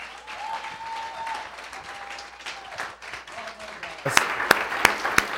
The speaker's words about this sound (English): Would you all give these men a round of applause?